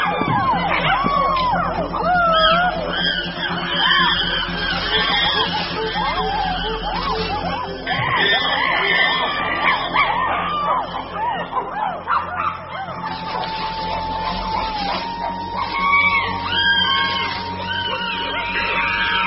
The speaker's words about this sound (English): The attack is on. To intimidate their opponents, the aggressors scream and drum on buttress roots.